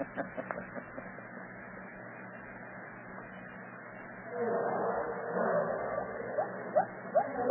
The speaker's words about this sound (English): Hey, listen to them gorillas barking. Plenty of them out tonight.